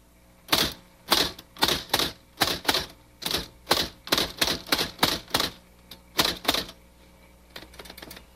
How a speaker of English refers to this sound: Now, the next step is, of course, this is an electric typewriter, so we should plug it in. Oh, yeah. I know what I want to type. You already. Do? Mm-hmm. There's a switch over here. Okay. Oh, just operate like a normal typewriter.